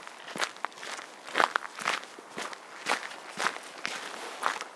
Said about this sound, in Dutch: Ja, we zijn een beetje aan het eind gekomen van de wandeling en we lopen zo ook het bos uit.